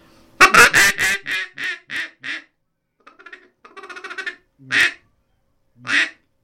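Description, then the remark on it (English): A polycarbonate duck call blown in a loud, descending run of about seven raspy, high-pitched quacks, then a quick soft chattering burst, followed by two separate single quacks. “This one is a polycarbonate. I'll show you how this one sounds.”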